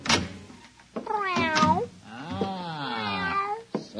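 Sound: cat meowing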